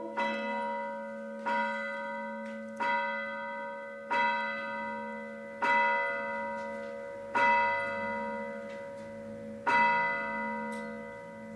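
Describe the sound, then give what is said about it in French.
A church bell tolls steadily, about seven rich, ringing strikes at an even, unhurried pace, each one humming and fading into the next. Fairly loud, with no voices. “Alors ça empêchait de sonner les cloches.”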